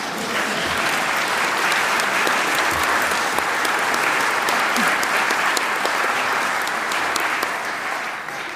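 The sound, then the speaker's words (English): An audience applauds in church, a dense, steady wash of many hands clapping that holds at an even, fairly loud level throughout, with no voices breaking through. “You are allowed to clap in this church.”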